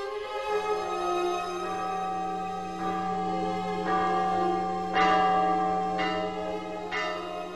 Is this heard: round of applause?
no